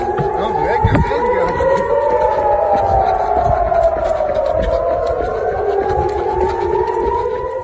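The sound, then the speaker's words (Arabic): Several air raid sirens wail together in settlements and cities under rocket fire, their overlapping tones slowly rising and falling at steady high volume, with a faint murmur of voices beneath. “صفارات الإنذار تدوي في المستوطنات والمدن المحتلة على مدار الساعة حتى أصبحت جزءا لا يتجزأ من حياة العدو، ومستوطنوه يحاولون النوم بقلق على دويها ويستيقظون مرعوبين على أصواتها”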